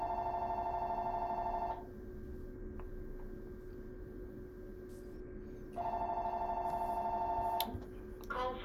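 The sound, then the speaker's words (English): A telephone rings in two long electronic bursts separated by a few seconds of quiet, the trilling tone fairly loud over a steady low room hum. “Sorry about that ringing.”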